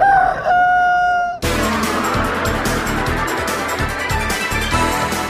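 A rooster crows once, loud, its strained call lasting about a second before cutting abruptly into a dense, rhythmic wash of busy music-like sound that fills the rest.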